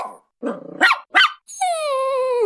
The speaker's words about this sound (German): Das letzte Bellen war recht lang. Klang phonetisch eher sanft und sorgend.